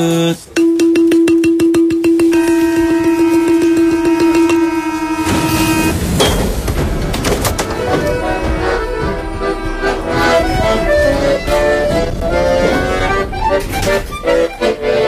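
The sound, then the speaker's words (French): A loud, steady buzzing warning tone holds for several seconds, like a metro door-closing signal, then gives way to a busy, rhythmic passage of percussive music. “Et je me demandais, est-ce que vous pouvez me faire, avec un de ces balafons, juste la note, vous savez, des portes du métro qui se ferment? Vous savez, le signal sonore, c'est de”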